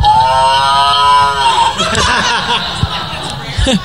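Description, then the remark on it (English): A Chef's Pal talking meat thermometer, the beef model, plays a recorded cow moo to signal the meat is done, one long, loud, slightly falling bellow lasting under two seconds, followed by brief chuckling and murmured voices. “I believe we've got a chicken one and this cow one, so you can get those.”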